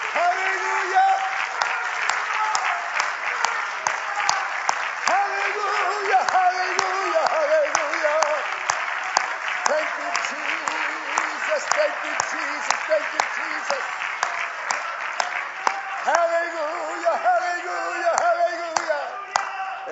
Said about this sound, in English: Yeah, let's all clap our hands for the Lord, shall we?